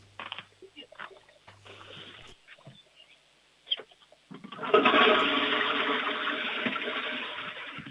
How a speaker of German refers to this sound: Das ist, glaube ich, jetzt eine der lautesten Klospülungen gewesen, die ich jemals hier in der Sendung hatte.